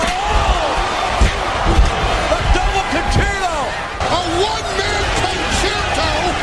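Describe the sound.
Several sharp metallic slams of a steel chair striking, landing at irregular moments over a loud, roaring arena crowd with whoops and shouting voices throughout.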